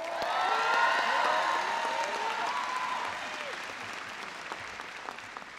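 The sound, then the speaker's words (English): Sustained applause from a large crowd at an American air base for airmen and soldiers, loud at first with scattered cheers and whistles, then gradually thinning and fading over several seconds. “Give them a big round of applause. And please give some applause to all the airmen and soldiers up here.”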